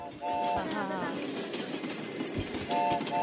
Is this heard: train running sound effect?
yes